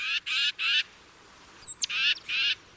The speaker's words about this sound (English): Titmice are loud and vocal birds, which could make them particularly easy to follow.